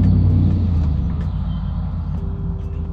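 A loud vehicle passes outside, rumbling with heavy low-end engine noise that fades slightly, followed by a steady higher-pitched tone. No one speaks.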